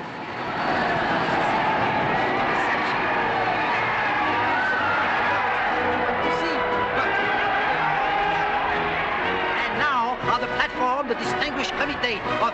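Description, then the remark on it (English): A large crowd cheers and shouts in a steady, dense roar of many voices, with a low rumble underneath and sharp whistles and cries rising near the end, as Durand's aircraft, the Victory, lands on a floodlit runway and gendarmes hold back the waving crowd. “On the TV, Durand's aircraft lands on the floodlit runway. Gendarmes struggle to hold back a cheering, waving crowd.”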